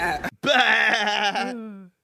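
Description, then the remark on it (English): A human voice imitates a baby goat's bleat: a loud, quavering cry of about two seconds, with a short burst before the main wavering call, which then trails off. “Baby goat.”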